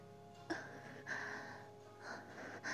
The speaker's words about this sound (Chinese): 想听姐姐娇媚的喘息声，姐姐独到我喘几下。一直在喘呀，宝宝。